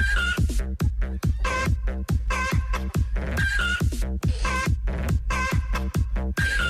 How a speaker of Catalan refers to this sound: Gallines, com dèiem, de races autòctones, viuen ara a aquesta residència. Els avis i les àvies les poden cuidar, els donen menjar i aigua o s'asseuen cada dia a mirar-les una estona.